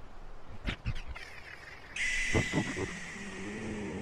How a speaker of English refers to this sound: Did you hear that? Hold on, I'm gonna roll down the window. What is that? I think it's a bird, but it's not like the condor before. Could be an owl since it's ass o'clock in the morning. It's always the fucking owls.